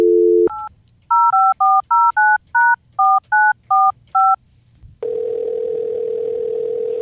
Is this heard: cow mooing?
no